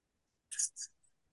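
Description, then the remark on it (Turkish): Two quick, scratchy strokes of a pen nib's long edge on paper, drawing a horizontal line without lifting the pen, one down and one back up to smooth the line, soft, with a faint trailing scrape and no voices. “Yatay I ama önce aşağı in, sonra yukarı çık, aşağı in, yukarı çık. Bu böyle pürüzsüzleştiriyor çizgiyi. O sesi de o yüzden dinletmek istedim.”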